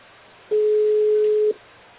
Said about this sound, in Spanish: Sí, siento que suena un teléfono, yo no sé si es mi línea.